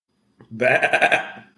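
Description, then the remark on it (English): A single sheep bleats, a wavering, quavering baa lasting about a second before trailing off. “is that a sheep you hear, Peter?”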